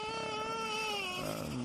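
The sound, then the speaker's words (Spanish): A baby boy cries in one long, loud, sustained wail that holds steady and then drops lower near the end, with no talking over it. “¿Un llanto de un niño?”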